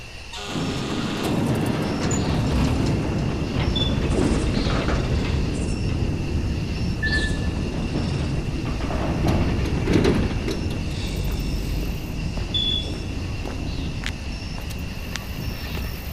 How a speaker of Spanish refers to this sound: Así suena la puerta de una cárcel cuando se abre.